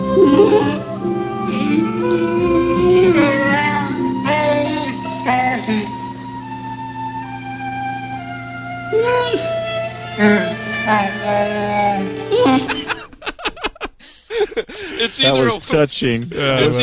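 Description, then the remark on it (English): Several overlapping Wookiee growls and howls, presented as a Wookiee family gathering, warble up and down in pitch for over twelve seconds, then break into harsher, choppier yelps and bursts toward the end. “Here's some Wookiee sounds. A Wookiee family gathering.”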